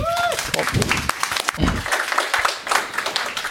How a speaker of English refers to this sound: Big round of applause.